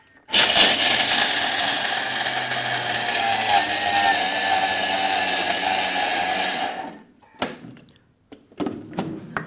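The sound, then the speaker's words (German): A Thermomix blender roars loudly and steadily for about six seconds, a dense whirring motor noise as it pulverizes cashews and other ingredients, then cuts out, followed by a few short clunks and knocks. “So, dann macht man den Thermomix zu, drückt auf den Knopf bzw. dreht hier und wartet. Es wird jetzt etwas laut, ja?”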